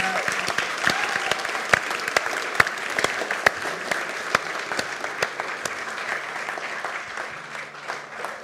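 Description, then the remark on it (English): An audience at a church service claps steadily for several seconds, a dense, sustained round of applause with sharp individual claps popping out, fading slightly toward the end. “Can we give the Lord a round of applause?”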